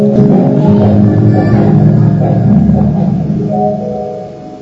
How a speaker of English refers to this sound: Hearing the lion roar within the entrance of his cave, Jambavan ran to protect his family.